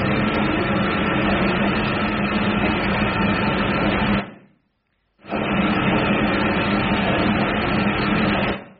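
A tumble dryer runs with a loud, steady mechanical whir and rumble, cuts out for about a second, then resumes at the same level. No voices.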